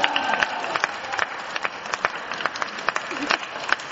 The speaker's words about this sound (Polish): Wielkie brawa dla Justyny, wielkie brawa.